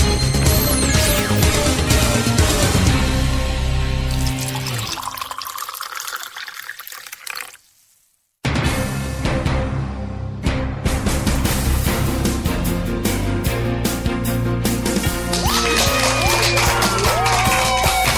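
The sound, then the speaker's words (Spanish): Loud, sustained applause with a dense crackling texture, layered with music; it cuts out briefly to silence about midway, then resumes at full strength to the end. “Y con esa energía positiva y esos aplausos, como cada día damos inicio a este episodio 42 del programa Te Invito un Café.”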